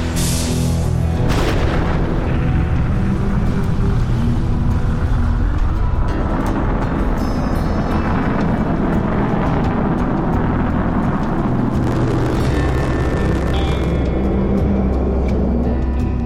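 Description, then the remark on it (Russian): A massive, continuous roar of rocket main engines igniting at the end of a launch countdown, loud and rumbling with deep low-end power and crackling texture, sustained throughout with no speech. “5, 4, запуск главных двигателей, 2, 1.”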